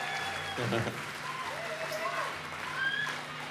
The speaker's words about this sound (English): How about a round of applause for the incredible Jairus Yokely opening?